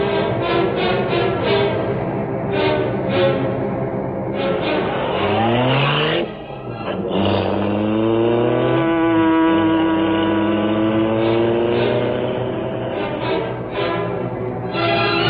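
A car engine revs loudly and steadily, its pitch climbing and dropping as the vehicle accelerates and drives on, continuous with a brief dip midway.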